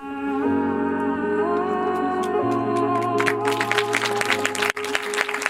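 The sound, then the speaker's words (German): Sustained, steady film music plays in the Cinelux cinema in Geneva, then an audience bursts into dense, loud applause partway through for a documentary film about historic court rulings in the Netherlands. The clapping swells over the lingering music until the end. “Applaus im Genfer Kino Cinelux.”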